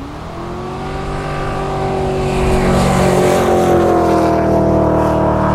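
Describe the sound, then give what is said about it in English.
A V8 race car engine roars at full throttle, a loud, steady growl with rising and falling harmonic tones as it surges and holds high revs. No voices are heard. “Nice V8. On full chat.”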